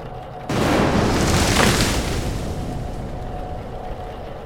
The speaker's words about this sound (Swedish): Tillsammans med vinden från sjön fällde nästa blixt ett träd över hustaket.